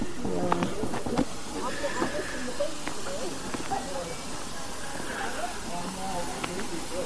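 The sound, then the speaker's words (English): A Victorian T3 steam locomotive in rich green LSWR livery simmers at the Swanage end of platform 2 in October sunshine, getting ready to leave for Swanage, giving off a low, steady hiss throughout while a person talks over it. “And this beautiful Victorian engine, very quiet actually, is just simmering at the Swanage end of platform 2.”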